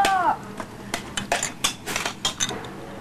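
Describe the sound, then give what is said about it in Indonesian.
Food being moved onto a plate, with a string of light clinks and scrapes of a utensil against dishware in an irregular rhythm, plus a brief high voice at the start. “Ini dia taruh di piring sekarang.”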